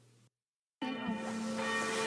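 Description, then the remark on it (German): Church bells ring out loud at 6 p.m. after dark, following a short silence, their sustained, overlapping tones humming steadily with no voices present. “So, es ist 18 Uhr, wie man auch an den Kirchenglocken hört.”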